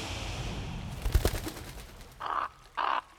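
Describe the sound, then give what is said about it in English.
A giant ibis gives two loud, harsh, raspy calls in quick succession above the Nile, after a brief burst of rough, crackling flutter-like noise. No one speaks. “It was a giant ibis, clutching a radiant object in its talons.”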